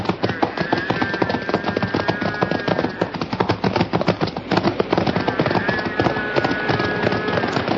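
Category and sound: animal, horse hooves clip-clopping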